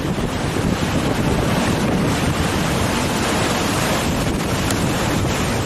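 Rough, storm-tossed sea surf during Storm Gloria at Cala Margarida, Palamós, roars continuously as waves surge into homes, with heavy waves crashing and wind buffeting the microphone; a dense, loud wash of water noise with no voices.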